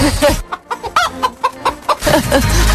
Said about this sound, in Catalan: Recuperem un gall poc oportú